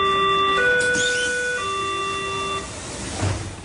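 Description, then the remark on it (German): An East Berlin S-Bahn train door warning chime, the C, E, C two-tone signal used on Berlin S-Bahn trains since 1986: a bright electronic signal steps through three sustained notes, low, higher, then low again, before cutting off, leaving a short burst of rumbling noise. “ein Türwarnsignal für die Ostberliner S-Bahn-Züge zu entwickeln”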